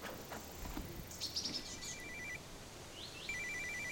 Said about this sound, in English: Is that your sat phone? Yeah, good to know it works.